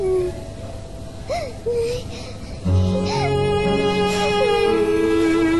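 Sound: child crying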